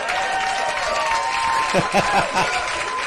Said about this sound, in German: Hier kommt ein Applaus.